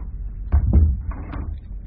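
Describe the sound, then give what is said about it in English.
A door swings shut with a dull thud, a couple of soft knocks of wood against the frame, followed by a brief faint rattle as it settles. “Close the door.”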